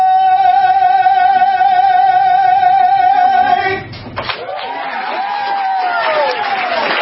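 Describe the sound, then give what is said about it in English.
A man singing a patriotic song holds a long final note with vibrato, then the crowd inside a Chick-fil-A restaurant erupts in loud cheering and whooping that continues to the end. “The entire crowd there at Chick-fil-A cheers him on”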